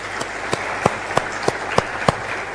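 Audience applause: a steady run of sharp, evenly spaced claps, about seven or eight, over a dense hiss of scattered clapping at moderate loudness. Nobody speaks.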